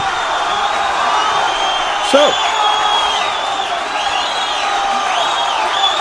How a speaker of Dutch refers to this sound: Volgens mij is dat applaus erin gemonteerd. Ja. Het is wel heel erg in golven.